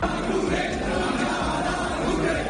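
A dense crowd of firefighters shouts and chants together at the mayor in the corridors of Alicante City Hall, a loud, steady roar of many voices that fills the whole stretch without a break.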